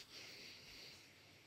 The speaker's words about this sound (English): But it's the military breathing technique. So I breathe in through my nose for a count of four.